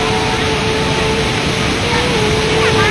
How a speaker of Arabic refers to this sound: هذه هي شلالات إغواسو، ثاني أكبر شلالات في العالم.